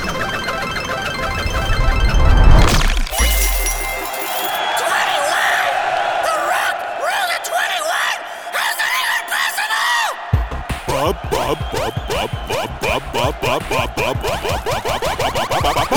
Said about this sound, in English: Excuse me, where was all this cheering when it was my turn?